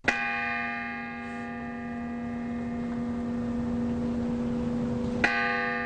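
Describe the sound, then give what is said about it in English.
A large church bell in Tucson tolls twice in memory of the victims of a mass shooting, each strike ringing out with a long, sustained humming decay, the second stroke landing about five seconds after the first. No voices. “As we're hearing, churches and fire stations around Tucson rang bells in memory of the victims of that shooting and of some others since.”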